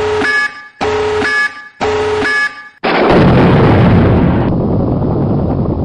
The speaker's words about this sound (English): I have sound for that too. Tactical nuke incoming!